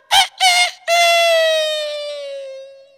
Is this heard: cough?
no